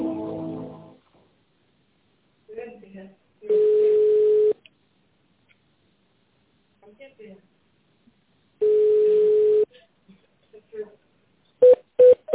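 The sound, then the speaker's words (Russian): Telephone keypad tones punch in a menu choice in the Delk company's automated phone menu: a few quick, bright beeps near the end, after two long steady single-pitch tones and short stretches of voice. “Для соединения с отделом проектных продаж наберите 2.”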